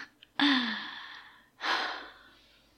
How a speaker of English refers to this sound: You keep breathing like that girl in soft, frightened, nervous gasps.